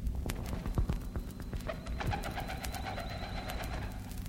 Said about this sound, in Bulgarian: Чувам плясък на крила.